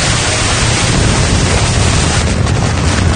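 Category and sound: sound effect, building explosion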